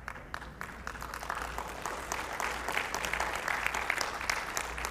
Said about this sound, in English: You're getting better on the applause. It's increasing. I want to commend you for that.